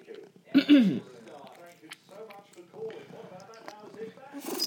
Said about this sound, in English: Oh, see, did you hear her then? She went like a little half sneeze. You've still got your cold, haven't you?